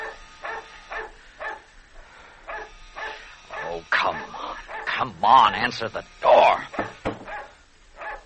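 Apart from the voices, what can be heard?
dog barking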